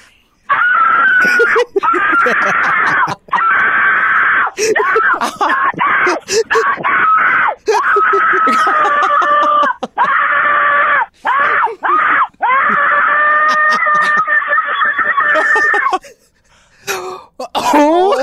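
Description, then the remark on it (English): A caller screams at full volume over a phone line, trying a screaming trend from TikTok, in long, strained, sustained bursts with only brief gasps between them, sounding distorted, before trailing off near the end. “And it's pretty much how you sound screaming for it's your life.”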